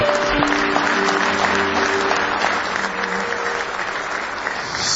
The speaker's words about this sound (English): Give the Lord one more hand clap of praise.